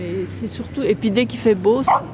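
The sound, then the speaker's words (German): Six dogs bark and yip in quick, uneven bursts, fairly loud, overlapping one another with a few higher whimpering yelps mixed in. “Eine Weggefährtin hat 6 Hunde im Schlepptau.”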